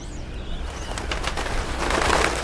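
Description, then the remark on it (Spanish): A migrating flock of wild birds calls over a steady noisy background, with soft cooing and scattered chirps building slightly louder toward the end. No one speaks. “Creo que el principito aprovechó la migración de una bandada de pájaros silvestres para su evasión.”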